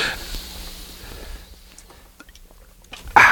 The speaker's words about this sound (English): And we will talk about what happens with that right now, once I take this swig of water.